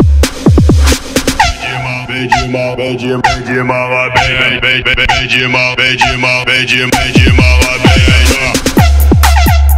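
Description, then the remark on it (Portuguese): A car sound system with Sal Digital and Taramps amplifier modules blasts music through bee-box tweeter horns: shrill, buzzy high tones ride over booming bass and sharp rhythmic hits, loud and continuous throughout. “Deixa eu escutar a caixa de abelha dele.”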